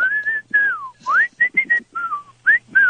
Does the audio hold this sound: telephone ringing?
no